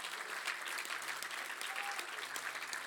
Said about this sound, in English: Come on, let's give Jesus a huge, huge hand clap.